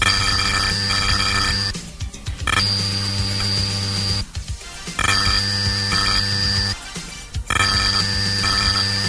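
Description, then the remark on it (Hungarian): Loud, steady electronic buzzing from a retro data cassette played back in a tape recorder, a droning harmonic tone broken three times by short bursts of harsh noisy screech, with no voices. Each stretch of tone carries 80 characters of data, and a brief pause marks the end of each 80-character block. “Egy ilyen kis zúgás, ez mit jelent pontosan?”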